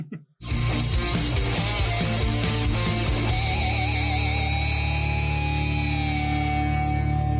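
A loud electronic sound effect drenched in echo: dense layered tones with a wavering, warbling pitch that sustain and ring on for several seconds, with no one speaking.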